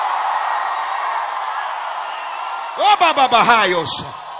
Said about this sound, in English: I need 60 people in the tent, outside, in the building, to scream like you lost your mind.